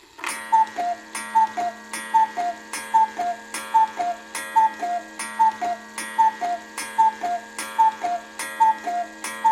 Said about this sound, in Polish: Poezja to wspaniała sprawa i Amerykanie mają sporo tego. U nas to się rzadko trafia, właśnie tego typu kukułki.